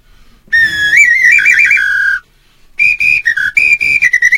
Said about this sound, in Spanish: Eso es mi silbato brasileño.